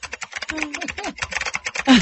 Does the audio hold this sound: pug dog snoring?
no